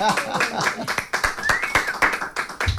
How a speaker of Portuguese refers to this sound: Vamos bater palmas para as histórias?